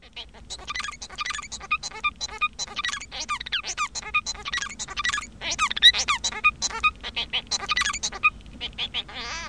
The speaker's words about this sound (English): But the Bengalese finch has produced a type of song that has these elements that repeat over and over again